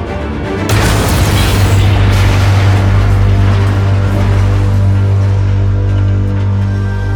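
A spaceship engine explodes: a sudden loud explosive boom erupts about a second in, followed by a sustained deep rumbling roar with a steady low hum that lingers and slowly fades, with no voices present.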